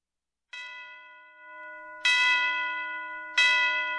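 Church bells strike three times at a slow, uneven pace, each clang loud and bright with a long, humming ring that lingers and overlaps the next. No voices are heard.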